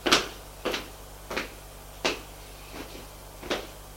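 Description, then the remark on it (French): A door being opened, with a series of about six sharp wooden clacks and rattles spaced roughly evenly, over a faint steady low hum, as a woman leads two young people through it. “Elle les mène à une porte.”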